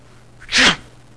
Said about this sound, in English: Oh, I'm really sorry. That's how easy it is to move chaff, right? So you can sneeze and chaff is gone.